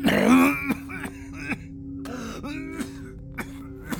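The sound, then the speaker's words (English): A man's harsh, gravelly growl bursts out, followed by a rough throat-clearing cough and a few low, strained grunts with small clicks, no words spoken. “Carl growled and coughed, then started over.”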